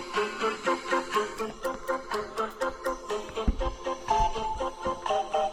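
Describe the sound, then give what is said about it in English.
An instrumental song plays from a phone inside a house: a steady, danceable beat of sharp percussive hits under bright melodic tones, moderately loud, with a fuller low end in the second half and no voices. “I have to do it on my phone because we're doing it on location inside the house.”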